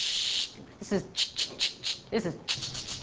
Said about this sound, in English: This is white noise.